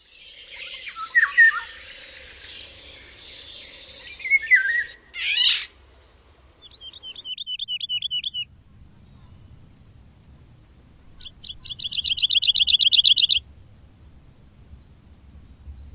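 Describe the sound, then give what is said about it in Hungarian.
High, busy skylark song warbles for several seconds, then pauses and returns as two shorter rapid trills, clear against a quiet low rumble. “Pacsirta.”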